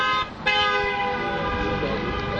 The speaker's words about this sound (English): Because another new car beeping its horn.